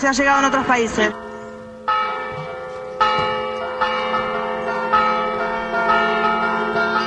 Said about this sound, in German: Wann die Hochzeitsglocken dann läuten werden, ist noch ungewiss.